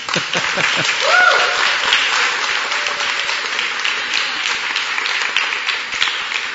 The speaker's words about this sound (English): But for those who are standing, you know, they probably have not had anybody cheer for them since the preacher said, "I present to you Mr. and Mrs." So would you applaud them right now?